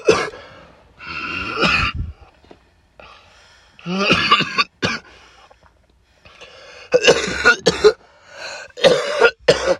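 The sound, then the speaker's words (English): A loud coughing fit: several harsh, hacking coughs in uneven bursts with strained, raspy breaths between them, and no talking. “I was oozing because I was about to cough.”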